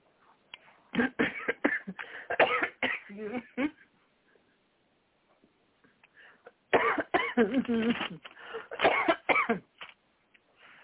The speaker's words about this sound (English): I have a dry cough now.